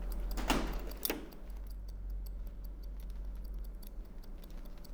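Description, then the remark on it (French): Hairdresser's scissors snip, two sharp louder cuts near the start followed by a quick, steady run of faint metallic snips, with no voices. “Ciseaux, coiffeur, kapperskaar.”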